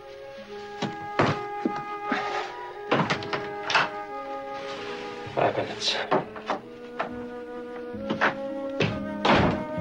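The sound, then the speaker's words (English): A door clunks open and thuds shut as a man leaves, picking up his briefcase, amid a series of knocks and bumps, with a steady tonal hum and faint voices in the background. “He grabs his boots, dons his hat, and heads for the door, picking up his briefcase on the way out.”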